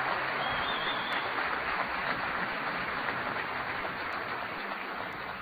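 A sustained round of applause from a crowd for an outstanding team, dense steady clapping that holds at an even, fairly loud level for several seconds with no voices over it.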